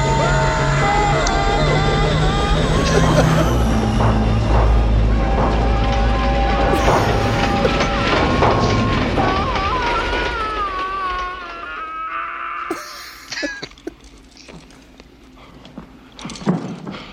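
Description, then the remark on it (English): A locomotive thunders through a movie scene, its steady whistle tones ringing over dense rumbling and clatter, with shouting voices mixed in before the din thins out into scattered knocks and bursts. “Did you catch the number on the locomotive?”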